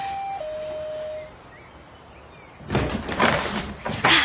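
A two-tone doorbell chime sounds briefly as visitors ring to be let in, then after a quiet pause a door is opened with a loud, rattling rush of noise.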